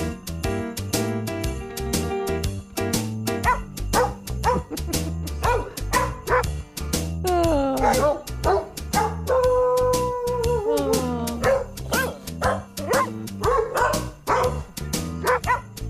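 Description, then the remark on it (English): Real dog barks and yips are pitched and edited into a bouncy holiday jingle, the clipped barks landing rhythmically on the melody notes over a steady musical backing, loud and up front. “Those …, and you know they're all real ….”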